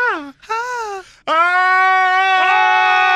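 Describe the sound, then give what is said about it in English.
A person lets out a short wavering cry, then a second brief one, followed by a long sustained high-pitched scream held steady and loud, done as scream therapy, with no talking. “I'm going to try some stuff, but okay, now we're going to try scream therapy.”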